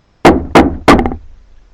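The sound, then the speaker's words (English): Three firm knocks on a door, evenly spaced, each landing with a solid thud and a brief resonant ring before fading into quiet. “Because so often, when our hearts get drawn away from Him, then we hear Him knock on the door of our hearts.”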